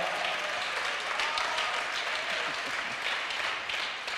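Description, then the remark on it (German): A church audience in Marzahn, Berlin, claps steadily, a dense, continuous wash of many hands at an even level throughout, with no voices standing out. “Wir lieben euch, auch wenn ihr es vielleicht nicht direkt hört, aber ich glaube, wenn ihr nochmal das Klatschen unserer Gemeinde hier hört, dann, jawohl.”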